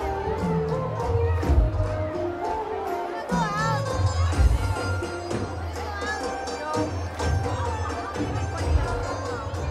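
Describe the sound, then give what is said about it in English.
Rhythmic hand claps from a crowd of Garba dancers at HSNC, clapping their hands because the dandiya sticks ran out, steady and sharp, blended into loud festive music with singing and a dense babble of voices and shouts. “On this particular day, HSNC ran out of dandiya within mere minutes of being open, so most dancers are clapping their hands instead.”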